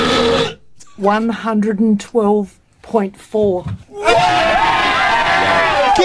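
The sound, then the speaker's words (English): A long, loud, throaty world-record burp of about 112 decibels by a man in Australia rings out in several gulping bursts, then a crowd erupts into cheering and whooping that carries on to the end. “Here's the loudest burp in the world from down under.”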